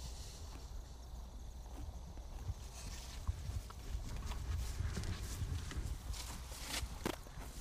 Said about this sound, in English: This pair of horses here I bought 3 years ago come from Queechy. I do all my work with horses.